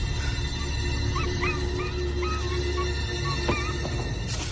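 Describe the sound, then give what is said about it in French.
A dog named Croquette yelps and whimpers in distress as it is being set on fire, a string of short high-pitched cries rising and falling over a steady, noisy background rumble. “comme on a pu l'entendre, est en train de foutre le feu à Croquette, hein, le chien”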